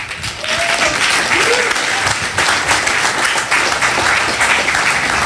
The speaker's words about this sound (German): Also, ich begrüße zum Gespräch, ich bitte Sie um einen donnernden Applaus, hier sind der Fotograf Jörg Brüggemann und Kai Sachse von der Clubkommission Berlin.